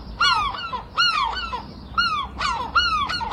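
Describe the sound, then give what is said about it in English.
Seagulls call loudly in the early morning near the coast, a run of about five harsh, nasal cries in quick succession over a faint background hum, with no voices. “Surely you'd expect seagulls if you move that close to the coast.”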